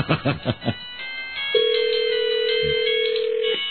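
A cell phone ringtone plays a quick, bouncy run of electronic notes, then a single steady electronic tone holds for about two seconds. It is fairly loud and close, with no one talking.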